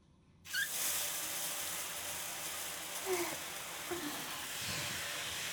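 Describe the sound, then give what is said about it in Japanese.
Water starts abruptly and runs in a steady, hissing rush, rinsing off a large amount of soap lather, with a few brief gurgling splashes breaking through the flow. No one speaks. “いっぱい泡立てたからよく流さないとね。”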